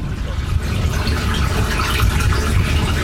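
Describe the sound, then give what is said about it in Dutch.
Steady rushing of fresh water pouring and gurgling into a drainage well, continuous and fairly loud, with a dense low rumble underneath and no pauses. “Dus alles wat nu hier zo, wat je hoort stromen, dat zou je kunnen opvangen om het in de zomer te kunnen gebruiken.”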